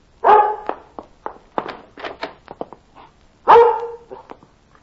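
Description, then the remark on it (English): A dog named Mike barks repeatedly, two loud, full barks framing a run of shorter, sharper yaps in an uneven, excited rhythm. “Oh, Lord love the foolish dog, but I'd hate for the dog catcher to be getting him.”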